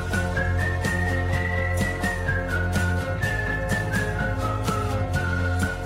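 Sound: whistling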